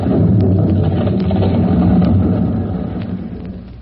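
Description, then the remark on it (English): Debris from the collapsing fire-gutted interior of a building tumbles down in a dense, heavy low rumble, with a few faint clatters and cracks scattered through it, slowly easing off toward the end. “Outside the building, out in the street, Chief Cody stands for a moment silent as the echoes of the falling debris die away.”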